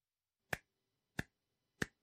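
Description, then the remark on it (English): Three sharp hand claps at an even, steady pace, keeping time with the rhythm of spoken English, each a crisp, loud smack with silence between and no voices. “So you can clap your hands while you listen, like this.”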